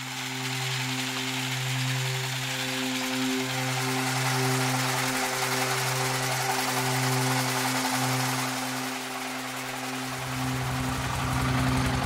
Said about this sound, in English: The pit is 40 feet deep. The nearby river often seeps in, dumping sand, soil, and water into the tunnels. Some underground mines are even deeper than the water table. So workers need to constantly run a pump to drain the pit.